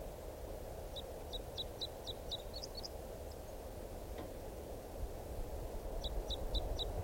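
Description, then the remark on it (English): An adult male bird sings two quick runs of high, sharp repeated notes, about eight in the first burst and four or five in the second, over a steady low rumble of background noise. “Here's that bird again. It sounds like it's in song.”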